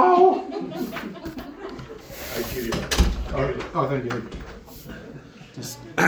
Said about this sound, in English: I just realized the door opens into me.